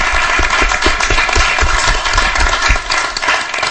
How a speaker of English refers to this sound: Okay, they all deserve a big round of applause. Thank you so much.